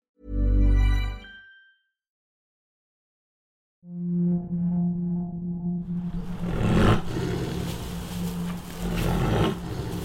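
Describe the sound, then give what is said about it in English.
A white tiger named Alex growls at a pop-up shelter on the outskirts of Kiev, Ukraine: one short, deep burst, a brief silence, then a long, low rumbling growl that turns rougher and noisier as it continues. “Alex is a white tiger in Kiev at this pop-up shelter on the outskirts of the city.”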